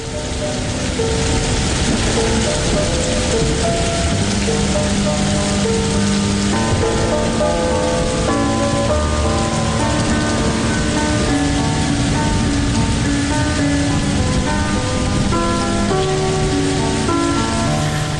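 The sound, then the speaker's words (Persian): A steady, dense hiss of rain falling on a surface, continuous and fairly loud throughout, with soft sustained musical tones running beneath it and no voices. “وقتی برف میاد، وقتی بارون میاد، وقتی هوا ابریه، گاهی دلت میگیره، خصوصا تو این آخرین روزای سرد پاییزی که بیشتر به زمستون شبیه تا پاییز.”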